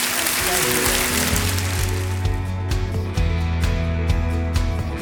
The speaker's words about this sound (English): Thank him with a clap offering, would you?